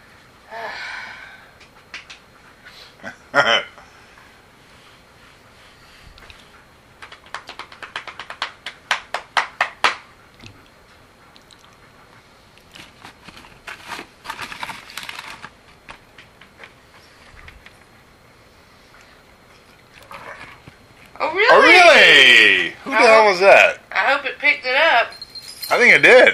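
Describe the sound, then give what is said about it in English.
A dog, either Titan or Max, barks loudly in a quick burst of several barks near the end, after a stretch of scattered clicks and tapping sounds. “I can't tell if that was Titan or Max, but that was the dog belt.”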